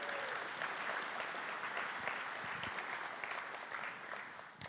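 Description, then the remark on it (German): Steady audience applause for the bridegroom fills the whole stretch, a dense, sustained patter of many hands clapping at moderate volume, fading slightly toward the end with no voices on top. “Applaus an den Bräutigam, er darf sich wieder setzen.”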